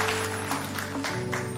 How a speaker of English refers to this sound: Come on, let's give a little clap as we're sitting down to the Lord. Yes, Lord. Woo.